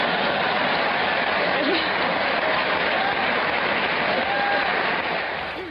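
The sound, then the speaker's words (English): Sustained audience applause for a naked woman fills the whole stretch, a dense, steady crackle of many hands clapping at once, loud and unbroken, with faint voices mixed into the crowd noise. “Now they're applauding for her being naked.”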